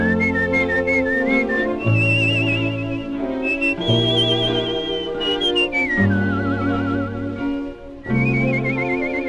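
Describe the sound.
A clear, bright whistled melody, improvised in a scat-like way by a singer who is not an instrumentalist, whistling as if playing a horn, swoops and trills through loose, jazzy phrases with a wavering vibrato, riding steadily above a full band accompaniment, with no talking.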